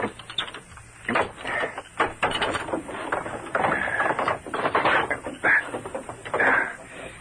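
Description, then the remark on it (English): A rusted window catch on a bank window is forced open, with a run of harsh grinding scrapes and squeaky metallic creaks coming in uneven bursts over several seconds. “This window will be easy to force. Catch is rusted.”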